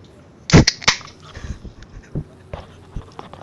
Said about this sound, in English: So what we'll do first is push this potato chip bag away, because, listen to this.